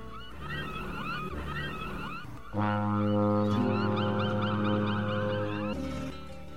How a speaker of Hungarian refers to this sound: Ősz partján vesztegelt, horgonyát szedi a nagy hajó. Kürtje felbúg, hangja köddé porlik a dermedt fák alatt.